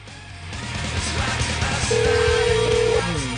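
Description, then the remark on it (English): A telephone being dialed to call a waxing place, with a steady electronic tone sounding for about a second amid a dense, noisy background and low rumble; no one speaks. “We could just call any place that does waxing.”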